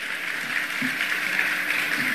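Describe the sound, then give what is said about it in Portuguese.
A crowd claps steadily for about two seconds in homage to former mayor and governor Nilton Cardoso, a dense, even patter of many hands with no pauses and no voices standing out. “Eu queria uma salva de palmas na homenagem que está sendo feita ao ex-prefeito e governador Nilton Cardoso.”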